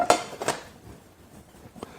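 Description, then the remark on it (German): A preheating frying pan clatters on a stovetop in two sharp metallic knocks close together, then a softer clink a moment later, with no voices. “Pfanne heizt vor.”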